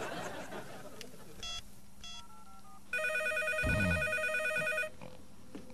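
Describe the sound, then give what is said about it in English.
A telephone rings loudly and steadily for about two seconds, a bright trilling electronic ring preceded by a few short tonal beeps, with some faint background noise underneath. “Harvey, the phone!”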